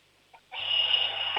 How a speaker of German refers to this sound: Boah, das ist aber eine schrille Klingel, cool.